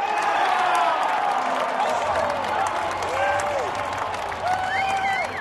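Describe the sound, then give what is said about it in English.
A large crowd at Gillette Stadium cheers and applauds steadily and loudly during the Patriots' first preseason exhibition game against the Saints, a dense wash of clapping with rising whoops and shouted voices swelling over the roar throughout. “The Pats give their fans plenty to cheer about, from an early sack of quarterback Drew Brees to a late-game pick off Chase Daniels, the third-string Saints quarterback who had a chance to put his team in the lead.”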